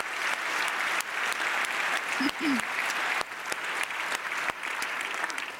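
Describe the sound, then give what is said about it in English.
Steady, sustained applause from an audience at a congress, a dense wash of clapping with sharp individual claps standing out. A brief whistle or cheer rises through it partway through. “That is worth an applause.”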